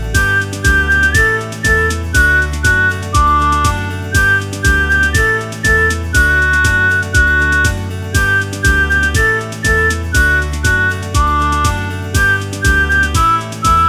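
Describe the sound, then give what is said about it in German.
The first of two whistlers whistles a lively melody over a steady, loud instrumental backing with a regular beat, the whistled tune running continuously throughout with no talking. “Pfeifer, bitte.”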